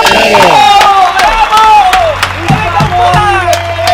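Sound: applause and cheering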